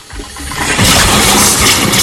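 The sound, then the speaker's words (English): A bathroom tap is turned on to fill a glass and bursts on with a loud, rushing gush of water that sputters and hisses with air, building quickly and staying strong, without any voices. “A mixture of water and air blast out.”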